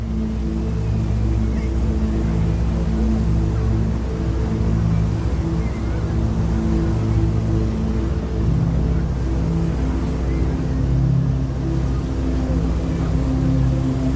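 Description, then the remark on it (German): A steady, loud drone of a passenger ship's engine rumbles throughout as it leaves the harbour, with a continuous wash of water churning and splashing around the hull and no voices. “Du hörst das fröhliche Lachen, das Plätschern und die Stimmen der Passagiere.”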